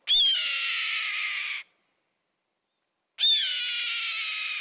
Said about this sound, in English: Yup, that's the cry of a red-tailed hawk soaring overhead.